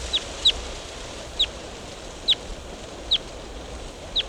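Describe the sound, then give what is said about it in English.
A wild bird calls in short, sharp, high chirps, about six of them at uneven intervals, standing out clearly over a steady outdoor hiss. “Wild bird. Flew to a different tree.”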